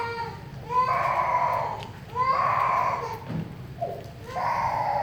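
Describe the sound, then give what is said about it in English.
A baby wails in a church during a sermon, three long, rising cries with brief breaths between them, each cry loud and strained with a high, harmonic edge over a low steady background hum. “Hey, I'm so grateful these little ones are in church. Isn't it great to have a noisy church?”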